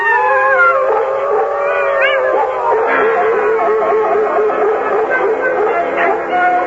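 Several wolves howl together in a loud, sustained chorus, their long wavering cries overlapping and rising and falling in pitch for the whole stretch, with no talking.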